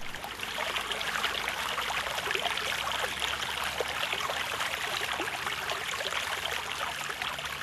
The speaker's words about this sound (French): Écoute, la rivière, elle fait comme ça.